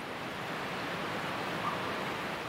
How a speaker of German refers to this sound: Langsam näherst du dich dem Wasserfall auf der anderen Seite des kleinen Sees. Du spürst, wie der Klang des Wassers in dir ein tiefes Gefühl der Entspannung kreiert.